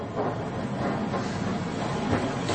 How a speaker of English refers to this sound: No, but you should hear something. Good Lord! The underground line into Gloucester Road and after that to Aldgate. It's on the surface here, and what's more... It's stopping!